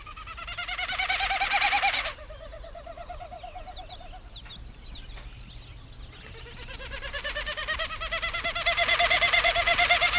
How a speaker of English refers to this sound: A Wilson snipe. Wilson snipe is correct.